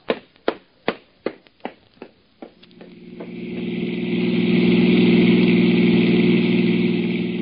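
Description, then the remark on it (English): A run of rhythmic, fading clicks gives way to the engine of a hired car catching and building into a steady, loud, low hum that keeps running to the end, with no voices. “I hired a car and started making a survey of the city.”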